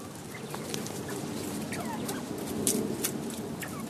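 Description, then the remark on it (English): A small covey of quail in an outdoor aviary, given a treat of lettuce and tomatoes at about 4 o'clock in the afternoon, cluck and murmur softly and steadily, punctuated by scattered brief, high chirps and clicks. The sound stays quiet throughout, with no one talking. “I'm outside in my aviary, where I keep a small covey of quail.”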